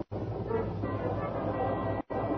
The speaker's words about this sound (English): And 50 minutes later, when I tore into Fulton and followed the street markers to the station, a long, low, welcome sound in the night told me I was on time. The train was just getting underway again.